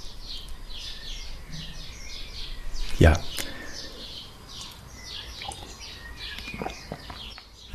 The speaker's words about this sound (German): Und hier passe ich mich deshalb auch an, schiebe jetzt einen Abschnitt ein, wo alles so auf Watte, auf Eis liegt und ihr einfach hier im Hintergrund die Vögel zwitschern hören könnt. Früher Morgen, Amsel schon längst am Zwitschern, Amsel, Drossel.